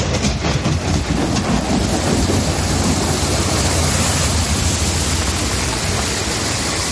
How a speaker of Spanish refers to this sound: Bueno, los vecinos asustados por lo que estaban viendo sacaron, como escuchábamos, sus teléfonos móviles para grabar, ¿no?, esa impresionante tromba de agua que estaba cayendo sobre su ciudad.